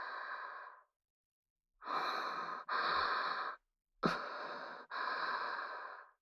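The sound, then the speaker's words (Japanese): Warm, breathy exhales right up against the microphone, five soft rushing breaths in slow pairs with brief pauses between, intimate and close with no talking, as lips come near for a kiss without touching. “熱い吐息がかかって、でも唇の当たらないギリギリの感じ。”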